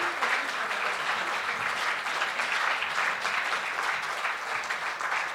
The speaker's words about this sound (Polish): No i tutaj wielkie brawa, drodzy Państwo.